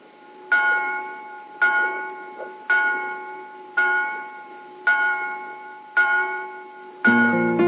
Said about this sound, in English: I've been listening to the bells. They're coming from that small town over there.